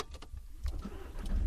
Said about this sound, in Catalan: Doncs ara tornem a agafar el cotxe per pujar cap a la Vall Ferrera. Anirem concretament al municipi d'Alins. Posem el cinturó, engeguem el motor